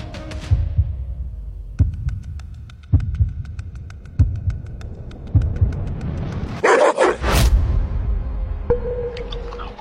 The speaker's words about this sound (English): I've never seen a dog go crazy for salad. Wasn't it just fed?